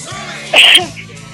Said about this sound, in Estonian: Oi, see köha, selline kurgust rögiseva sellise tämbriga kuulub ilmselt naiste rahvale.